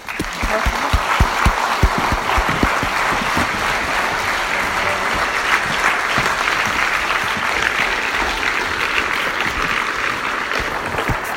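An audience breaks into sustained applause, a dense wash of clapping that stays steady and fairly loud for the whole stretch, with a few sharper individual claps standing out near the start.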